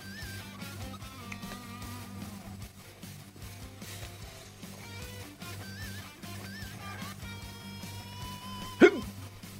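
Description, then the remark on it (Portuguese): A single sharp hiccup pops out near the end, loud, over a steady humming, tonal background with no one talking. “Sim, isso, o nome disso é soluço.”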